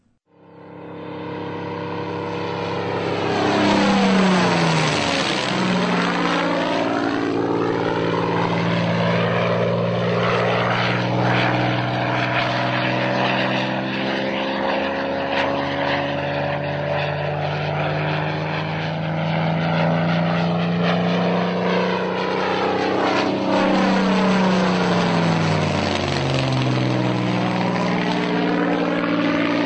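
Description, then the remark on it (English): A silver Spitfire's Rolls-Royce Merlin engine roars loudly and continuously, its pitch sweeping down as it passes by, then rising and falling again in a second pass, with no voices. “The unmistakable sounds of the Spitfire's mighty Rolls-Royce Merlin engine, and in particular the silver Spitfire that is about to set off on a 27,000-mile journey around the world.”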